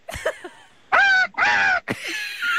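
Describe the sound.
A person imitates a parrot as a quiz buzzer sound, with two loud, harsh, high-pitched squawks in quick succession, each lasting under half a second, framed by brief breathy vocal noises.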